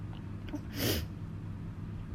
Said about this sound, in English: I'm sorry, that last one was me mainly just like breathing heavy. I was like trying to moan and like talk, but my brain shut off.